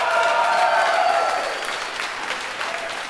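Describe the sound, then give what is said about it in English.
An audience claps steadily for about three seconds in response to being asked to applaud if they have seen the film Equilibrium, a dense, even patter of many hands that eases slightly in loudness toward the end, with no voices over it. “Applaud if you've seen Equilibrium.”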